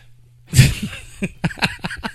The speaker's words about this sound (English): I'm trying not to cough on air because it sounds like I'm smoking and I'm not.